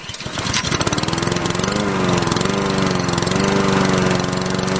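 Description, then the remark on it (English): A gas lawn mower engine kicks in and runs at a steady, loud, buzzing drone, its pitch wavering slightly as it keeps going, with no voices. “In Port Orange, Florida, a teacher who was caught on camera mowing his lawn naked is fighting to get his job back.”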